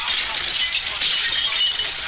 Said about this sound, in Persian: با خنده استهزا آمیز بلندگو و پایش را از جا بلند می کند و به شیشه باجه روزنامه فروشی می کند. سپس بلندگو را بر زمین می زند و می شکند.